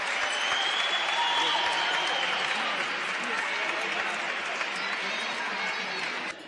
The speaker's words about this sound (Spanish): aplauso. Muy bien.